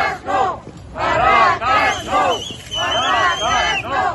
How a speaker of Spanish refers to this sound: Han recibido a gritos de no a las barracas en Fuentecillas a los miembros del bipartito PSOE Ciudadanos.